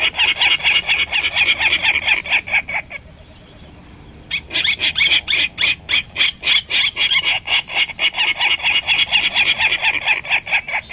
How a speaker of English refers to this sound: Okay, I turn on the recorder, and I punch the clock for 10 minutes. It's a 10-minute period, 5 minutes of songs with pauses, and then 5 minutes of just listening. So it's full volume right in front of us. It's Virginia Rail.